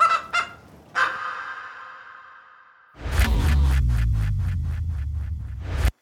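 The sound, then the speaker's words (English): Chickens cluck and squawk, starting with a couple of short calls and a drawn-out squawk, then a busy flock of rapid, repeated clucks over a low rumble, loud. “It would definitely help these chickens.”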